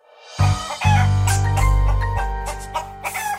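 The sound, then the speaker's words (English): Backyard chickens in Seattle clucking and squawking in a short flurry of calls over a steady low rumbling tone underneath. “Now, all over the world, backyard chickens are becoming popular, not just as a sustainable source of eggs in the growing local food movement, but also as funny, quirky pets.”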